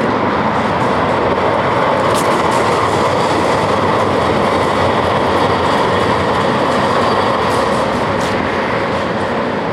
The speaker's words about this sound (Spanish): Un segundo, que pasa el tranvía.